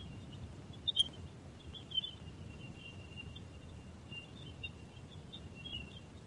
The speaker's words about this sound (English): These are sounds from Jupiter. Isn't it interesting? It sounds like birds. Sounds like the ocean in the distance and birds. But it's actually Jupiter. Radio waves from Jupiter.